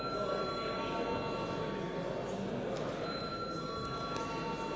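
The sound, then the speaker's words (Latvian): A steady electric bell rings continuously for several seconds in a parliament, calling deputies to vote on a bill in its first reading. It is a sustained buzzing tone over a dense background hum, with no pauses or change in loudness. “Lūdzu zvanu.”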